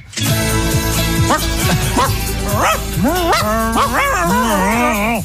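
A dog barks in short bursts that turn into rising, wavering yips and whines, a steady stream of loud canine vocalizing with no pause.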